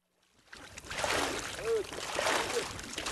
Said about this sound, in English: A herd of camels drinks from a well in the middle of a moonscape of sand and gravel. Water pours down their furry faces as the sun begins to set on the Gobi.